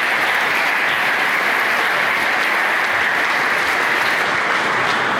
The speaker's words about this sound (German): Wo haben wir ihn denn? Da ist er. Herzlichen Applaus. Los geht's.